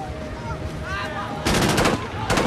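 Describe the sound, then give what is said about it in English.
Two rapid sprays of automatic gunfire, a longer burst followed by a shorter one, crackling loudly over a busy, rumbling background with faint whistling tones beforehand. “The attackers spray the heathens with gunfire.”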